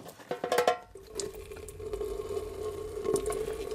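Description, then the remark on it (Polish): Boiling water is poured over nettles, before they are chopped, in a steady, continuous stream after a few quick clattering splashes, fairly loud, with no talking. “najpierw trzeba przelać pokrzywę wrzątkiem, dopiero później posiekać.”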